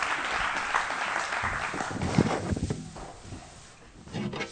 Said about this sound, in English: Hey, let's give a big round of applause to our contestants on the Newlywed Game.